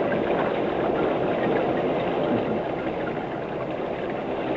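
Steady rain falls in a dense, even hiss of countless small drops, holding at a constant moderate level throughout with no voices.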